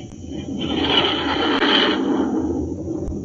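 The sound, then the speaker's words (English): A Scorpion jet fighter, a 20-ton plane 53 feet long with a 56-foot wingspan and wingtip rocket pods, roars on takeoff, a loud, steady rushing thunder whose hissing whine swells for a moment, then settles into a sustained rumble. No voices are heard. “The Scorpion takes to the air like magic.”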